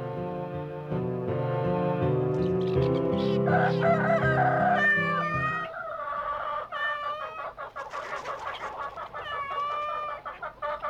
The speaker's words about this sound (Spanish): Todos juntos entraron en el corral de la granja. ¡Cuánto ruido había allí!